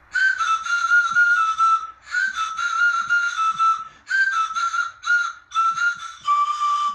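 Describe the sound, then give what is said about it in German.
A homemade pan flute plays a breathy, whistling melody in short phrases, its airy notes sliding between a few pitches with brief pauses between runs. It is made from cut-down disposable razor handles, stuffed with different amounts of paper and stuck together with tape. “Aus den Stielen von Einmalrasierern bastelten sie eine Panflöte.”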